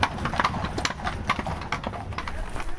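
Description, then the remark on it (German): Hooves of cold-blooded draft horses clip-clop steadily as a carriage is pulled along, two horses harnessed and a third following behind, arriving at the Reit- und Fahrverein Isny riding club; a brisk, overlapping rhythm of hard knocks over a constant rumble of wheels. “Und zwar sind zwei vorgespannt und eins läuft hinterher.”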